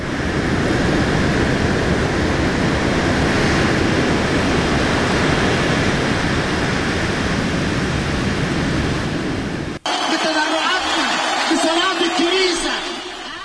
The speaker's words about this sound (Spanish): El oleaje ha sido el protagonista esta semana en Canarias y en la península. Olas de 5 metros golpeaban las costas canarias más arriba.